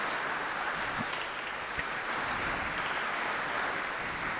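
An audience applauds steadily, with many hands clapping at once in a dense, continuous crackle that holds an even loudness for the whole stretch, with no voices over it.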